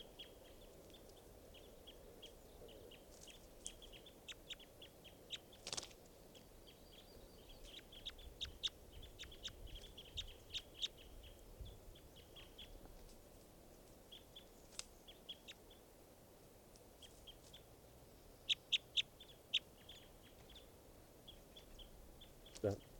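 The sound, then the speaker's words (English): Bird calls recorded from bird number 515: many short, high-pitched chirps scattered irregularly throughout, mostly faint, over a steady low rumble of background noise, with a few louder sharp notes standing out. “It's recording now, bird 515.”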